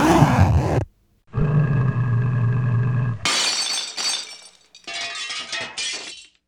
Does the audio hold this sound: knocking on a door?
no